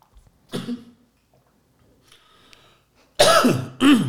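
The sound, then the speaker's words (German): A muffled cough near the start, a quiet stretch, then two loud coughs in quick succession at the end, brought on by a grapefruit drink. No one speaks. “Ich muss gähnen wegen der Hitze und du husten.”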